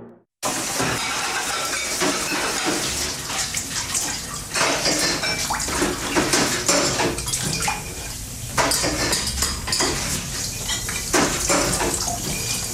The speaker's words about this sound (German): Finden Abwaschen langweilig? Also hören Sie mal.